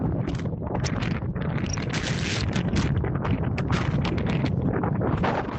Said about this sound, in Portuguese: Xornada de tempo desapacible, son as 2:20, e parece que a cousa vai empeorar a medida que avance a tarde. Así sonaba esta mañá o forte vento na costa.